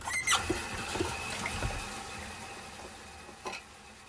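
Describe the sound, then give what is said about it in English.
Running water hisses steadily as dishes are washed, with a few sharp clinks and clatters of plates and utensils scattered throughout, fairly quiet overall, no talking. “Going to make bread, but first we have to wash dishes.”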